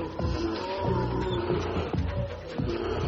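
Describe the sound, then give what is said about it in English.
A deep, growling roar from a mother grizzly bear protecting her cub and standing up to a pack of gray wolves, sustained and rumbling, with harsher bursts and snarls mixed in, loud with an outdoor background. “Grizzly Mom stands up to the gray wolves.”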